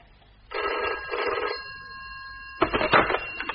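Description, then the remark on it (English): A telephone bell rings loudly in two bursts, with a sustained tone lingering between them before a harsher second ring rattles in. “Now, the kidnappers will be ringing through any minute with their ransom demands.”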